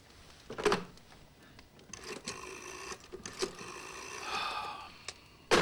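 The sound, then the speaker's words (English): A telephone handset is picked up and handled in front of a fire, with a series of sharp plastic clicks and soft rattling clatter, followed by a faint mechanical whir and a final click. “Later, he ponders in front of the dancing flames of a fire before picking up a telephone.”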